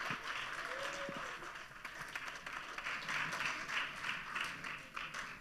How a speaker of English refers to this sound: That's your stage and that's your applause. Have fun.